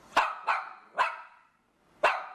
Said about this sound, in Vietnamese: Tuy nhiên, nhờ sống ở Anh lâu năm cho nên tôi biết vừa rồi là tiếng chó của xứ nữ hoàng.